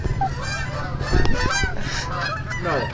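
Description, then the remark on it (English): A flock of geese honks repeatedly overhead, a dense, overlapping chorus of harsh nasal calls that swells and fades over a low steady rumble. “Imagine those birds just land up here with us.”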